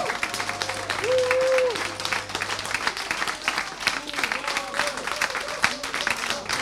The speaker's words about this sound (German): Ja, zum Schluss hielt es das Publikum nicht mehr auf den Sitzen. Alle standen auf, klatschten und sangen dann auch mit.